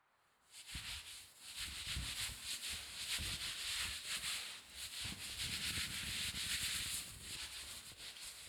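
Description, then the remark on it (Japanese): Steady, bright friction of a towel rubbing and wiping someone dry after a shampoo, a continuous hissy scrubbing with uneven strokes that lasts several seconds with no voices. “タオルで拭くからそのまま動かないでね。”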